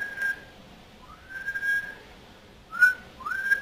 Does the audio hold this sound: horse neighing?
no